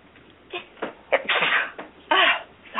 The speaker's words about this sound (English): Gesundheit. Wow. I had to sneeze and couldn't. That's weird.